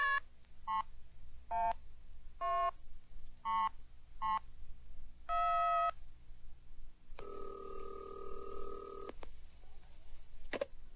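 A newly installed telephone in a house on top of a mountain being dialed to call a mother in Eastport: a series of short, evenly spaced beeping tones, followed by a longer buzzing ring tone and a faint click, with no talking.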